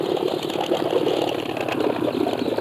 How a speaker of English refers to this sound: On the river, just coming around the bend. A small boat.